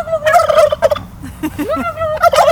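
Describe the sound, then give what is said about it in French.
Two male turkeys and a female turkey, kept alongside pigs, gobble loudly and repeatedly, a rapid warbling rattle that rises and falls across the whole stretch, with a brief lull before another burst. “Et là, les dindons, les gens ont la possibilité de communiquer avec eux parce qu'ils parlent énormément.”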